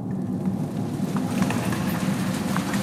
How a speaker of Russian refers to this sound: Дождь идет.